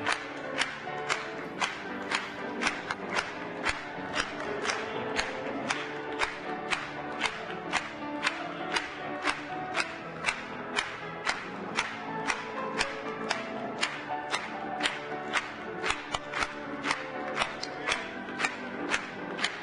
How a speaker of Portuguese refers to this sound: Vamos bater palmas para ele.